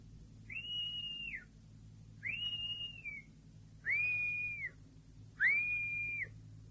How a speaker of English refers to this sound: I'll give the same signal as last time. Two whistles.